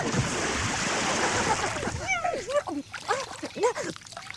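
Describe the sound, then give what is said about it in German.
A loud, churning splash as a rhinoceros is pushed into water fills the first couple of seconds, then the water settles as voices and laughter take over. “Ein kleines Schöpfli und schon bist du drin. Hoppala!”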